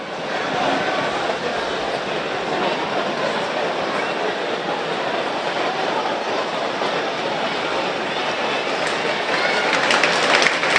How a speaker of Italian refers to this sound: Gli applausi per Estevez che sta praticamente lasciando il campo.